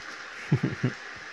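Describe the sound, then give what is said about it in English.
A cat purring, a soft low rumble that comes in three quick throbbing pulses over a quiet background hiss, with no one talking. “Oh, you purr like an engine.”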